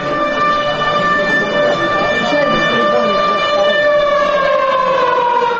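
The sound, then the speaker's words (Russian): A loud alarm siren, switched on by officials in an adjacent room of the Holiday Inn Moskovskie Vorota hotel during a meeting with Mikhail Khodorkovsky, wails steadily for the whole stretch, its stacked tones holding and slowly drifting downward, with indistinct voices underneath. “После этого выступления Михаила Ходорковского чиновники, руководившие срывом мероприятия в гостинице «Holiday Inn» «Московские ворота», похоже, не выдержали и включили в соседнем помещении сирену.”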